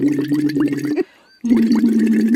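Steady humming blown through a tube into a little water in a Luxvox, a device that looks like a small glass vase, a low buzzing tone with gurgling bubbles, in two loud bursts separated by a short pause.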